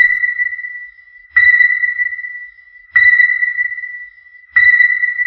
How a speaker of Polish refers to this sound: Następnego dnia, od rana, z gabinetu Ździebełki dochodziły piski i buczenie. Piszczało urządzenie trzymane w rękach przez Ździebełkę, który niczym saper na polu minowym z uwagą obchodził wszystkie zakamarki gabinetu.